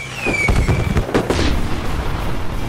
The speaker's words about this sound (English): On the first distortion riff, an explosion of red pyros go off one by one across the top of the ramp.